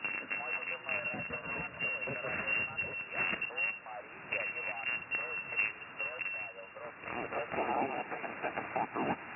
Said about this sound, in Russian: Не так быстро. Пожалуйста, несколько раз позывной и медленнее. Помехи очень большие. Я понял, у вас QRP мощность.